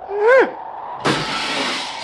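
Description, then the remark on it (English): In the NBC radio show Fibber McGee and Molly, a short rising-and-falling whistle-like tone, then a sudden loud crash of a rock, tossed toward a canyon, striking a car, with a noisy clattering, shattering rush that lingers for about a second. “Listen how long it takes this rock to fall down there.”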